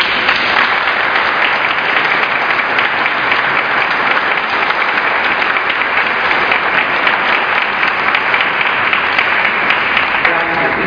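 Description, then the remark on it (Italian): Steady, dense applause from an evening audience on a slightly cool night, welcoming a speaker, many hands clapping continuously at an even loudness for the whole stretch, with no voices standing out above it. “Però anche se non siamo tantissimi stasera e fa un pochino fresco, lo accogliamo con un caloroso applauso.”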